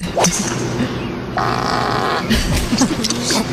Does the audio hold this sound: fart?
yes